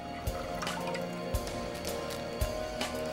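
liquid dripping

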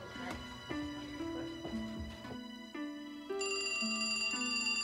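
telephone ringing

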